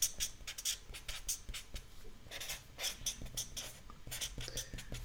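pen writing on paper

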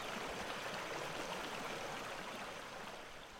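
river water flowing

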